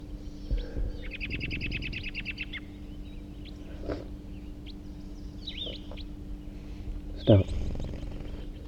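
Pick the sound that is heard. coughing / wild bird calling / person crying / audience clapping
wild bird calling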